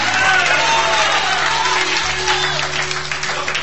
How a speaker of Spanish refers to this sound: Usted debería dar un mejor aplauso en esta noche. Usted debería decir un mejor aleluya.